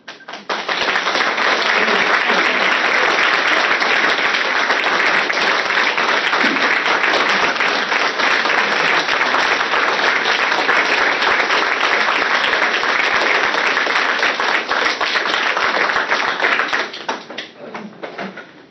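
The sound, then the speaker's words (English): A crowd at a meeting applauds a speaker steadily for about seventeen seconds, a dense, sustained wash of many hands clapping that holds even in volume before tapering off at the end. “To refrain from responding to speakers by clapping or by acting in any way.”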